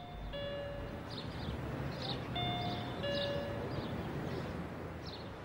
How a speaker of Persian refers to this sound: هوشنگ دم خونه کامران وایستاده و مردد این ور اون ور میره، فکر میکنه و تصمیم میگیره و زنگ در رو میزن.